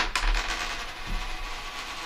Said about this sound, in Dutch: Waar gooi je hem op? Op kop of munt? Kop.